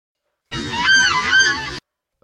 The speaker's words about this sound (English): Live bird slowed down.